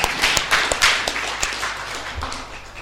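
An audience applauds, many hands clapping together in a dense, steady patter that holds moderately loud for about three seconds, with no voices over it.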